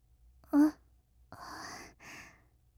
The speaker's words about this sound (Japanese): あくびしちゃったね。もう、眠の時間？そっか。頑張りすぎて疲れちゃったよね。